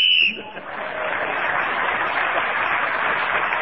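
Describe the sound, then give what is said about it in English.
A short, shrill whistle blast, blown to end a round, sounds right at the start, then gives way to steady, loud applause from an audience that carries on to the end. “Well, at the end of that round, Tony Hawk speaking as the whistle went, gained that extra point.”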